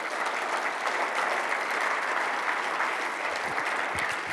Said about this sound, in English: The only time you're not happy to get applause is when you only have 20 seconds.